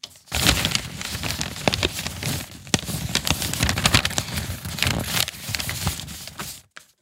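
Paper rustling and crinkling in a dense, continuous stream of sharp crackles and crisp snaps, fairly loud and steady for about six seconds before stopping abruptly, with no voices.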